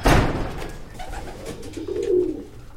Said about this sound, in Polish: Patrząc na czerwone obramienia okien, wystarczy tylko wsłuchać się w dochodzące dźwięki, by poczuć klimat tego górniczego osiedla. Jeżeli ma się szczęście, usłyszeć można jeszcze odgłos hodowanych tutaj niegdyś powszechnie gołębi.